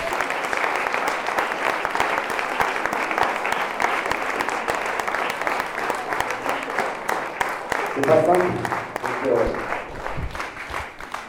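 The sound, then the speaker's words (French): Sustained audience applause for the 11 young people about to give their pitches this evening, a dense steady wash of many hands clapping for about eleven seconds, with a few brief voices and cheers rising near the end. “Donc je vous propose déjà qu'on applaudisse les 11 jeunes qui vont maintenant pitcher ce soir.”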